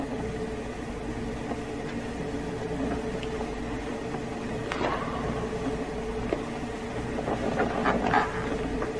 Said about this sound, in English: That was on a bus.